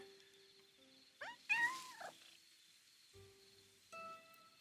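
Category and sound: animal, cat meowing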